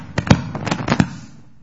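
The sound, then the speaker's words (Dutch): Joints creak and crack in a quick, uneven burst of about six sharp pops over roughly a second, the loudest near the start, then fading into quiet. No one speaks. “Wat kraak ik, hè?”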